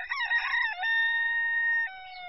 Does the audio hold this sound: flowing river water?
no